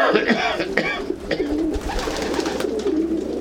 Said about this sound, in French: Et t'en as eu jusqu'à combien, ici, des pigeons ? Comment ? Parce que là, t'en as... Oh bah là, j'en ai 19, j'en ai 38, il y en a un 39. Et j'en ai 4 autres, j'en ai 43 en tout.